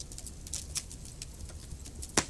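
Crackling pieces of wood burning in a fireplace: irregular sharp pops and snaps scattered over a soft steady background, with one louder crack near the end. No one speaks.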